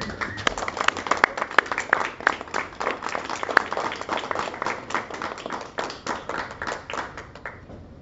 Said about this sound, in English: and he is amazing, and please give him a huge round of applause.